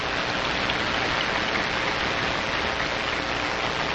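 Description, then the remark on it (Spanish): A large audience applauds at a 59th anniversary ceremony honoring the provinces of Pinar del Río, Holguín and La Habana, a dense, steady wash of many hands clapping at once that holds at an even level for the full four seconds, with no voices heard. “Un aplauso.”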